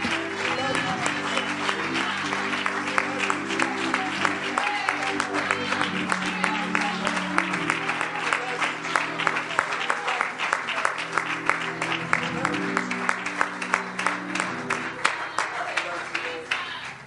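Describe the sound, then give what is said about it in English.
A large audience at a church service gives the Lord a hand clap, many hands clapping densely and steadily for the whole stretch, with sustained organ or keyboard chords holding underneath the clapping. “Could we just give the Lord a hand clap?”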